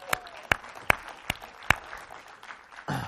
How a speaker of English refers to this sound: And the church should just give them a round of applause right now.